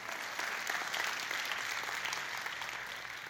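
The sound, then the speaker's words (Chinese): A church audience claps steadily throughout, giving applause to God, a dense wash of many hands at an even, sustained loudness with no voices standing out. “若是就把掌声归给神好吗？”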